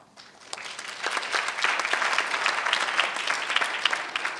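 An audience applauds after a presentation at an Anchorage Economic Development Corporation event, dense overlapping hand claps that swell after a quiet start and hold steady and fairly loud throughout, with no talking over it.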